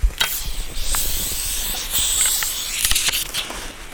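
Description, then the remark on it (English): Faint birdsong in a forest in May: scattered high chirps and thin whistles over a steady airy hiss, with a few soft taps and no voices. “On this May Day, the forest is full of birdsong and blessedly free of black flies.”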